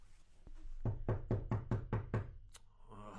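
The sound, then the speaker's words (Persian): Seven quick, evenly spaced knocks rap on a door in a steady rhythm, each one sharp and solid, with no voices and only a faint murmur of background noise afterward. “خدمتکار ببین کیست دروازه میزند.”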